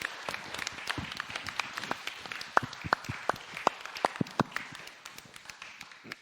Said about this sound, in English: So let's give them a big applause.